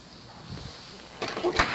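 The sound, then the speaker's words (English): A door is pushed shut, a short scraping slide ending in a dull thud, after a stretch of quiet room tone. “They're gonna come anyway, but at least we got one door closed, huh?”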